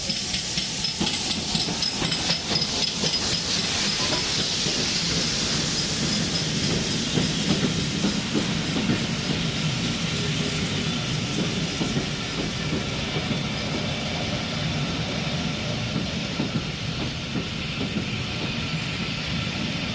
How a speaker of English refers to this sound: You can sit in the cockpit and watch the steam train pass by. Or walk round to Corpac Station and stand on the platform. To watch the train pass up close.